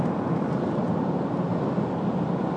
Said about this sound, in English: We're in the tunnel. We're passing a large lorry on the left-hand side. One of the kind that you'd use for carrying aggregate.